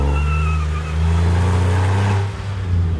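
A sports car engine roars as it accelerates hard down a straight toward a tight left turn, a steady, loud in-cabin drone with rising harmonics and a brief dip near the end, with no voices.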